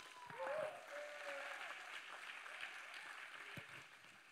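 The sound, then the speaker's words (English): An audience in a class claps steadily for the next session's speaker, a dense wash of applause that swells briefly near the start and then holds at a fairly even level, with a few scattered whoops rising above it. “So with that, we're going to our next session, and let's give a big round of applause for”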